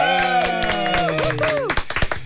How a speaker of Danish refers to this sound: Ej, du blev helt overvældet og klappede med, fordi jeg havde du ikke forventet.